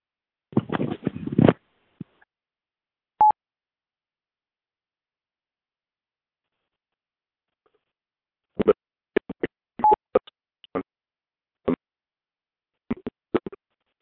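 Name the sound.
telephone dialing tones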